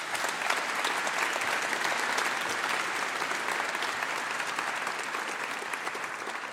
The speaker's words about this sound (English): Thank you. A round of applause for Leif.